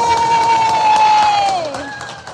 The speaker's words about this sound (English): Round of applause for our returning guest. Yay!